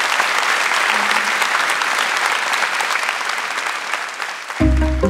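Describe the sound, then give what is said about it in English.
An audience applauds two authors at the end of a session, in a dense, steady wash of many hands clapping for several seconds, then the applause cuts off abruptly as a short burst of tonal music begins. “Look, that brings us to the end of the session, and thank you all so much, and thank you to both of you, not only for writing such brilliant books, yes, a round of applause, but also sharing with yourselves today.”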